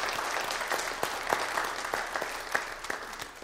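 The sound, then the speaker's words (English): A church audience clapping steadily together for a newly married couple, a dense, continuous wash of applause at moderate volume with a few sharper individual claps standing out, no voices. “Let's give them a nice round of applause.”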